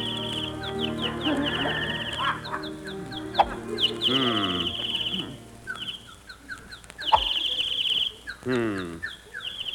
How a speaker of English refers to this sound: Darn those birds. I wish they'd stop singing. They're throwing me off my game.